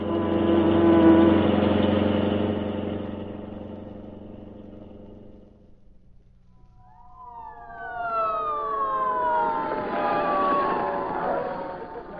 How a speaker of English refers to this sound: Some fire. Those rotten tenements burn like tinder. Let's get up close. Look at the flames. Boy, did you ever see so many fire engines?